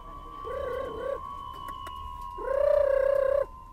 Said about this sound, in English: is back at the pigeon coop in his old hutong, ready for another day in the express mail van. He's already fed his birds and released them. Now, he's calling them home.